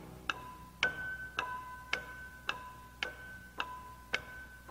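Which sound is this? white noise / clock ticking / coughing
clock ticking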